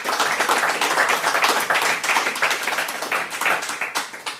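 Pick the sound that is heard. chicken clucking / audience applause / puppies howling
audience applause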